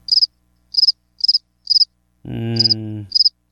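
Crickets chirp in short, evenly spaced trilled bursts, six in all, clear, with a brief low droning hum rising underneath near the end.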